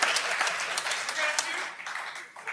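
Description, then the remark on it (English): An audience applauds with a dense, steady patter of many hands clapping at once, holding at a moderate level before thinning slightly toward the end. “I feel like that was kind of a forced applause break.”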